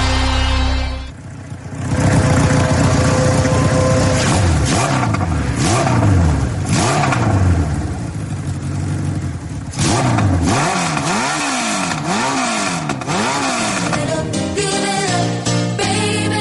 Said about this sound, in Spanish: no es sonido en directo, pero podría serlo, ¿eh? Porque están sonando muy fuerte los motores este fin de semana en Adeje